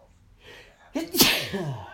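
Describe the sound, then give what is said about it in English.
A single loud sneeze with a quick intake of breath before it and a sharp burst of noise, trailing off into a short voiced tail. “Bless you.”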